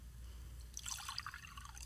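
After a brief pause, liquid is poured into a cup during a communion service, a soft splashing trickle with bright bubbly glints, fairly quiet over a low steady hum, with no one speaking.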